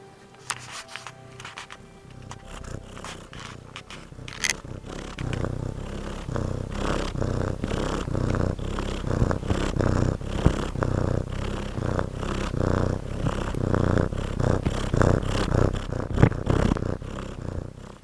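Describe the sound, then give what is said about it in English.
A cat purrs steadily, a continuous low rumbling that pulses gently with each breath, with a few faint rustles and clicks near the start and no talking. “Happy cats listen to Pinecone Radio.”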